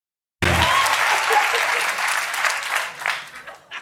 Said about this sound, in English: That is the applause of recognition, I see.